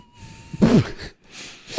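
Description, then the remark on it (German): A thin, steady whistle from a nose, followed by a couple of airy, hissing nasal breaths and a sniff-like snort, with no talking. “Fuck, meine Nase pfeift.”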